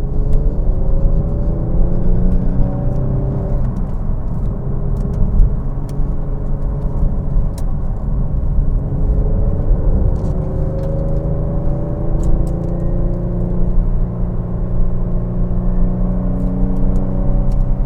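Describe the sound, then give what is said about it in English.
A car engine drones steadily from inside the vehicle as it climbs Snake Hill on a freshly paved road, its low rumble rising and shifting pitch as it revs and pulls under load, continuous throughout with no voices. “There's a whole lot of traffic way ahead of us. I'm gonna be on their tails in no time.”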